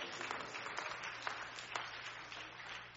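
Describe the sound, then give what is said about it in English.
An audience claps to thank Jesus, clapping steadily for about three seconds, a dense wash of many hands with a few sharper claps poking through, fairly soft overall and with no voices over it. “Come on, somebody clap your hand and tell Jesus, thank you.”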